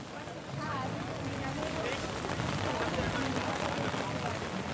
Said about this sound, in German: Das Wetter könnte nicht schlechter sein. Starker Wind, Regen, Hagel. Trotzdem stehen mehrere tausend Menschen unter ihren Regenschirmen vor dem Brandenburger Tor.